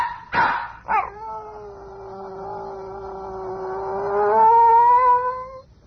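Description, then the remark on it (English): A dog lets out two quick yelps, then a long, wavering howl that swells louder near the end before fading, with no one talking; recorded on a portable recorder. “Today, the actual story of a dog's life, as shared and recorded on a portable recorder by Tony Schwartz.”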